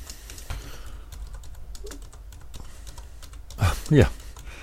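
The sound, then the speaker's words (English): Quick, irregular taps on a computer keyboard as a sentence is typed, fairly soft, clattering steadily for several seconds before a short louder voiced sound near the end. “Let me just finalize the sentence I was just typing here, which basically says the geometry, the Apollo constant connects all.”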